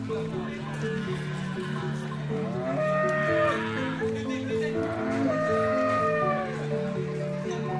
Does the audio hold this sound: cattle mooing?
yes